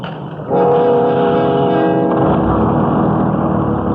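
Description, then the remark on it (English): A loud, steady engine drone with a deep rumble kicks in after half a second and keeps running without pause, like a large, crowded bus idling and pulling along, with passengers standing. “The bus was crowded, and we had to stand.”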